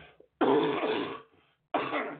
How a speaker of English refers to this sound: Oh, I thought that was muted. Yes, I'm dying on air here. Yes, sounds like I've got a big fucking hairball, and I'm just trying to cough her out.